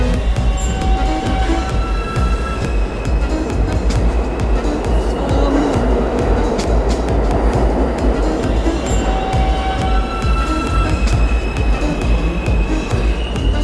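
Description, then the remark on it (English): An electric train's traction motor whine, made as an old power system is converted for a new motor, steady pitched tones rising and fading above a loud, continuous rumble of the train rolling along the rails, with no talking. “And something in that translation process is creating these sounds.”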